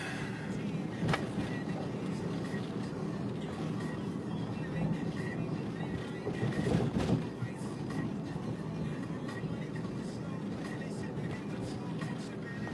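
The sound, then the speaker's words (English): A car drives through road traffic as a bus merges toward it, a steady low rumble of engine and tire noise throughout, with a couple of brief clicks and a slight swell in loudness midway. “Oh, bus, please don't merge into me.”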